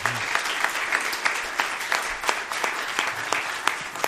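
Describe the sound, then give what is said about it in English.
A room full of people applauds steadily for a visitor from New Albany, Indiana, many hands clapping at once in a dense, continuous patter with a few sharper claps standing out, moderately loud and sustained throughout. “Give him a hand clap.”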